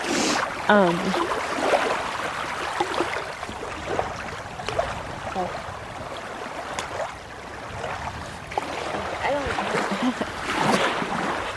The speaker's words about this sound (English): Just throwing little pebbles into the water.